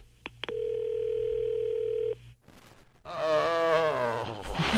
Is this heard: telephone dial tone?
yes